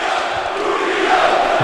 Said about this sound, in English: Loud, loud Bootio chants from the Barclay crowd.